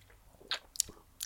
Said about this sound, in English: I took a little sneaky sip of that cachaça. I took a little sneaky sip. It was almost like tequila.